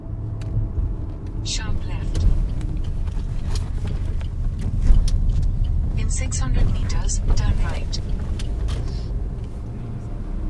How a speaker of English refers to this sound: Welcome to Vadnagar. Lots of traffic, lots of tuk-tuks, some handsome cows.